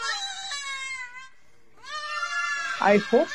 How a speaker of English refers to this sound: This is the screams of lambs.